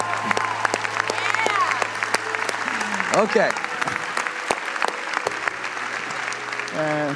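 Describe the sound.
A crowd applauds steadily for several seconds, a dense patter of many hands clapping, while a couple of voices speak briefly over it.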